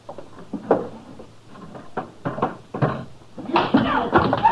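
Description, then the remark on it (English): Several sharp clunks as guns are dropped one after another into a drawer, then a louder rattling scrape as the drawer slides shut. “What will I do with their guns, Mr. Dillon? Throw them in a drawer, Chester.”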